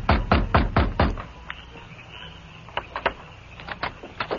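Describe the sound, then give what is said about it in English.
A fist pounds heavily on the wooden back door of a sheriff's office, five loud thuds in quick succession, then a pause and a few softer, scattered knocks and rattles, with no voices. “Then he pounded on the door.”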